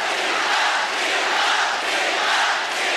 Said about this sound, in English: At the 2008 Olympics in Beijing, she upset Venus Williams in the quarterfinals. And the crowd went wild.